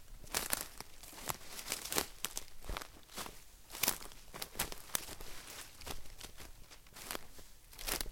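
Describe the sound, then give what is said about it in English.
Footsteps crunch and crackle through dry bushes, brush and twigs in a forest, a steady series of snapping, rustling steps with leaves crinkling underfoot, no voices. “We're still walking on all the bushes and trees in the forest here.”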